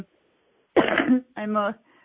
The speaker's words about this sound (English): I have a little cough. I'm sorry.